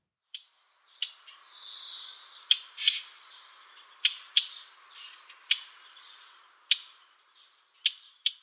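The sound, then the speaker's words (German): A blackcap's hard, clicking tack calls, like two stones knocked together, repeated about nine times at an uneven pace, clear, with faint warbling birdsong between them. “Und zwar, der Ruf klingt, als würde man zwei Steine aneinander klopfen. Ich spiele den Ruf einmal ab.”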